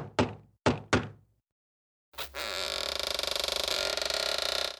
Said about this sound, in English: The cheeky tricksters knock on the door.